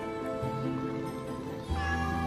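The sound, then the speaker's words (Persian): Cats in a house full of cats meowing in a steady, drawn-out way, with a second lower meow joining partway through. The calls are fairly loud, and no one is talking. “اولین خونه که من پر از گربه بود.”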